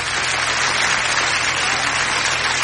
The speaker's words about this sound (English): Stop clapping.